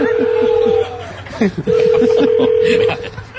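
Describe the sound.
A phone line rings back with two long, steady electronic tones separated by a short pause, heard over faint murmuring voices and a soft chuckle.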